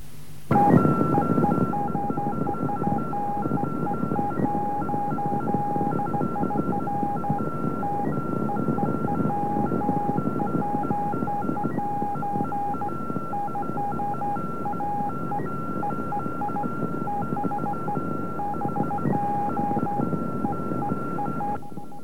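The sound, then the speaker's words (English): A navigation satellite transmission: two steady, high electronic tones with small regular breaks, riding over a thick bed of radio hiss for about twenty seconds, with no voices. “We'll now play it at a quarter speed, and you can hear the distinct pulse every 4 seconds, which corresponds to a second of real time, and the 3 tones which are used.”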